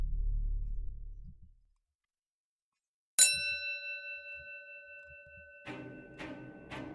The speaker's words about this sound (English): The hanging bell outside McCarrish Pub rang once more as one of the patrons, who was obviously drunk, stumbled their way out of the door and onto the street.